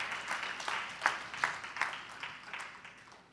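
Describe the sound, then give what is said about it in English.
A church audience claps together in a dense burst of applause as a hand clap of praise to God for the ministers, deacons, deaconess, ministers of music and choir, with a few sharper, louder claps standing out, gradually tapering off over a few seconds. “let's give God a hand clap of praise for them.”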